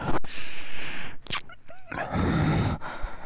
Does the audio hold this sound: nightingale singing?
no